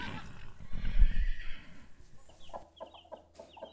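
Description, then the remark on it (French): A horse neighs loudly for about a second and a half on a farm in Brittany, France, then quieter short, repeated calls follow against a faint farmyard background. “Passer un bout d'été en Bretagne, dans une ferme, mais surtout avec des chevaux.”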